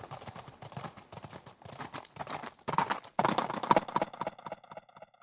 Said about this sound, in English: set up this very elaborate system of multiple cameras and triggers as a horse runs through these triggers.